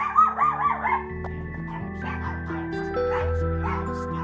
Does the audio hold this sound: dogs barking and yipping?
yes